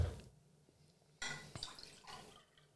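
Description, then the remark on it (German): More drinking water splashes into a glass in a few short, uneven gushes, moderately loud, with quiet pauses between the pours. “Willst du noch Wasser? Ja.”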